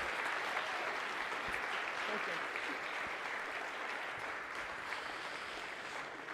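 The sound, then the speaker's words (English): Steady applause from an audience fills the whole stretch, a dense, even patter of many hands clapping at a constant loud level with no voices standing out. “Would you give her an applause today?”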